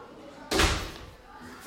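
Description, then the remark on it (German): A door bangs shut once, loud, as a new guest arrives, its boom trailing off over a second, with faint room noise and low voices in the background. “Oh, ein neuer Gast steht vor der Tür.”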